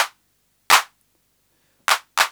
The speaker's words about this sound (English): Now, the controls, there are several controls. The simplest one gets rid of the what I call the reverb part of the hand clap.